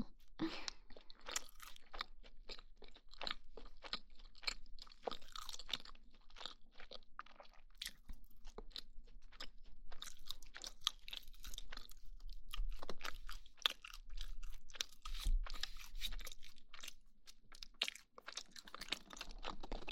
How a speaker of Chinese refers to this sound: 真的觉得这个麦克风录吃东西的声音好听，包括这种喝水的吞咽的声音。